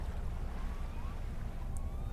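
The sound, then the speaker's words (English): A ship's mechanical engine hum from a ship in the near distance on a harbour at dusk, heard over dark water: a steady, continuous low rumble that drones on without pause, with faint higher whistling tones drifting over it and no voices. “Yesterday, on the harbour, up on a half wall, looking out into the dark water, there is a ship in the near distance. You can hear its mechanical hum, but you can't tell if it's moving in or backing out of the harbour.”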